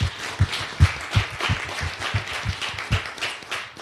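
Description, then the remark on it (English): Audience applause at the final panel of the Radio Days Africa conference, a dense wash of clapping with a few loud, steady claps punching through in a regular rhythm throughout. “I think just give yourself a hand of round of applause.”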